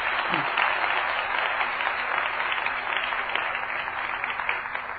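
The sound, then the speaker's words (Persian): An audience claps for a woman who answered the speaker's question, a dense wash of many hands that holds at an even, fairly loud level for about five seconds with no voices on top. “آفرین بر تو، لطفا برای بنده شایسته خدا کف بزن.”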